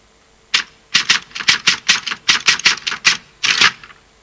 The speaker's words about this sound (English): This is Twatcher, a mobile steam telegraph, which can be read by all of your friends